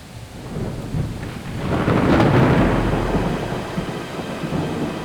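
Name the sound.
rain falling with thunder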